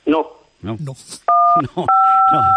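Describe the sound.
A beeping tone sounds twice in the background of a phone call with José María García, steady dual-pitched electronic tones, the second one longer, heard clearly over a man speaking.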